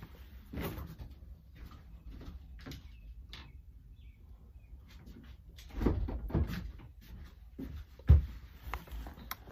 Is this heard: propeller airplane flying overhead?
no